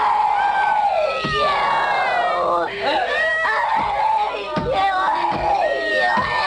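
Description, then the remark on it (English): Many people scream and wail at once in a primal group therapy session from the 1970s, a loud, continuous tangle of overlapping raw cries and howls that rise and fall without a break. “This was a primal group therapy session.”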